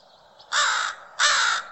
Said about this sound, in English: Crows are really fun. We call them ondeg. Ondeg is describing a change that's happening, and I think it's talking to the role that crows play in indicating changes in the seasons.